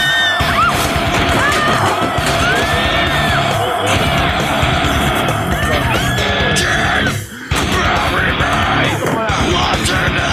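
A loud, dense nu-metal song with harsh screamed vocals over heavily distorted guitars and pounding drums, playing continuously with a brief dropout about three-quarters of the way through.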